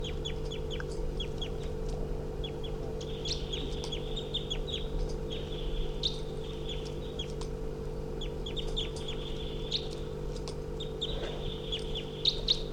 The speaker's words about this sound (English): There's a wild bird calling loudly nearby.